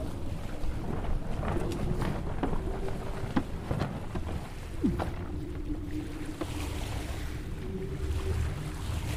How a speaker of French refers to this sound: On a éteint le moteur. Regarde, le vent souffle dans les voiles.